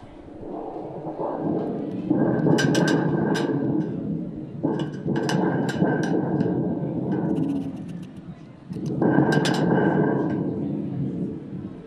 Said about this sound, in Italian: Questo non è né più né meno che uno strumento di origine peruviana che si chiama tamburo del tuono.